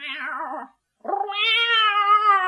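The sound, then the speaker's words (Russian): A fluffy striped cat sitting on a windowsill meows twice: a short wavering mew, a brief pause, then a longer, drawn-out, rising meow, loud and clear with no talking. “Сказала кошка.”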